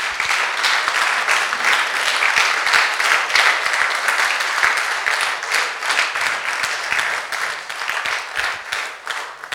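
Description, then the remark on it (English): A crowd stands and applauds loudly and steadily for a speaker's message for the whole stretch, a dense wash of many hands clapping at once, sustained without any break or voices over it. “Let's just stand and give him a massive applause for the message.”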